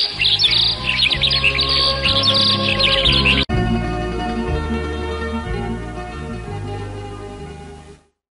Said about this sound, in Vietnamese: Sáng sáng mà trời chưa kịp mọc, Bê Vàng đã nghe rộn rã tiếng hót ở quanh nhà ở ven rừng